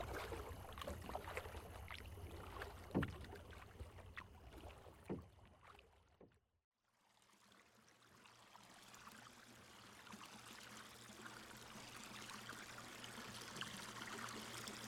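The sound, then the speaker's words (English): Paddle strokes splash and dip through water in an irregular rhythm as a small boat is paddled through a lagoon, then a brief near-silent gap gives way to a steady, softer wash of moving water. No one speaks. “No, we're not going to paddle the whole way.”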